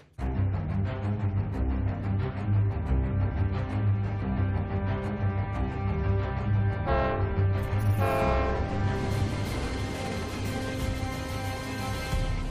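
A train rumbles past, its steady low roar filling the scene as a loud horn blares out partway through, with rail noise continuing throughout.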